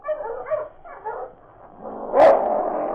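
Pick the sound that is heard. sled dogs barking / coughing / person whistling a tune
sled dogs barking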